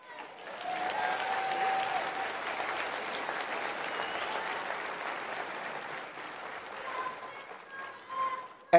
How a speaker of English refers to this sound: Well, give her a round of applause anyway. God bless her.